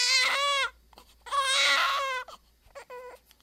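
newborn baby crying

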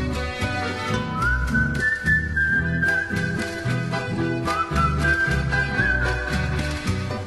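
soft human whistling

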